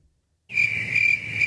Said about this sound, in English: That sounds like there are a lot of crickets there. That must be Saturday night.